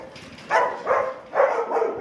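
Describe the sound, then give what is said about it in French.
A French national police detection dog, trained to find drugs or explosives, barks four times in two quick pairs at a police dog training centre, sharp and fairly loud against a faint background hum, with no one talking. “nous sommes toute cette semaine avec les chiens de la police nationale qui repèrent les drogues ou les explosifs”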